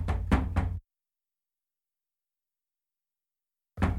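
Three quick, solid knocks on a door in close succession, followed by a long silence before another knock begins right at the end. Loud, with no voices.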